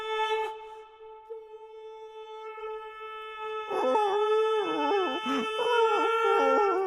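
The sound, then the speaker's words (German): A greyhound lets out a long, steady high howl that breaks into wavering, quavering whimpers and yelps, with no talking. “Psst, beruhige dich. So schlimm ist es doch nicht, armes Windhündchen.”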